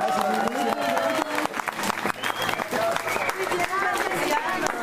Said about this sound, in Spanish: Bueno, un aplauso.